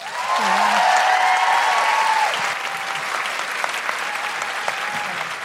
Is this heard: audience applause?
yes